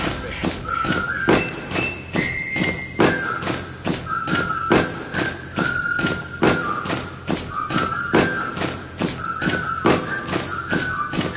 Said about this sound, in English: stomp with me. Are you deaf? I said stomp with me.